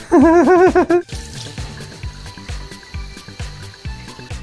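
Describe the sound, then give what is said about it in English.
Water splashes and sloshes in a shower or bath with a steady, rhythmic pulse, fairly loud, after a brief warbling high-pitched cry at the very start. “Let's look at one in the shower or in the bath or some kind of weird fucking thing.”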